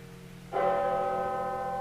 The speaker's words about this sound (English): You can see how different it's, each bell has its own unique voice. I can recognize by now hundreds of Russian bells just by their voice, just as you would a person.